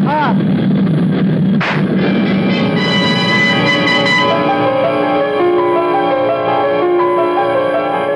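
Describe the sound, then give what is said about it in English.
A single sharp gunshot cracks out early on, set against the loud, steady droning roar of an airplane, full of layered humming tones that rise and shift throughout. “I tried to jerk my head away frantically at the last moment, but I could feel the bullet smash into my skull and then burst in a fountain of searing sparks.”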